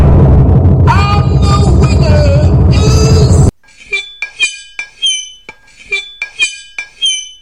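A knife scrapes across a glass bottle, giving a harsh, shrill squeal over a gritty rasp for a few seconds, then a run of sharp glassy screeches and clinks in quick irregular strokes.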